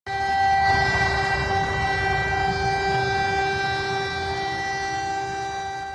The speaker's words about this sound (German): Am Mittwochmittag gingen ganz Tschechien Sirenen zu Ehren der drei Soldaten an, die am Sonntag in Afghanistan gestorben sind.